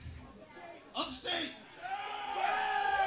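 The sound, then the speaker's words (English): A concert audience yells and whoops for upstate New York in scattered bursts, with a loud shout partway through and sustained high cheering building toward the end. “Just start yelling at upstate New York, Syracuse.”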